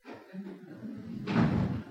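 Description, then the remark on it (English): A heavy door is pushed shut but left open a little, in a room where arrested people were chained in stocks, with a low rumbling scrape as it moves, then a louder, dull thudding impact that lingers briefly. No one speaks. “Pick up that stop and shut the door, but leave it open a little bit so you can hear me, okay?”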